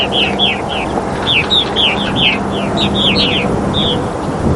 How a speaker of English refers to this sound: Boy, I think there's a second osprey now. Boy, I hope people can hear all this chittering going on. That is just so enlivening.